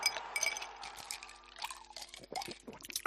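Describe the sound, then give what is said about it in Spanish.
A cold drink is poured over ice, the liquid splashing as cubes clink and rattle against the glass in quick bursts, with no voices. “Lo que tardas en beberte una bebida bien fresquita, con sus hielos”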